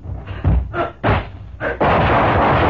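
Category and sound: impact, gunshots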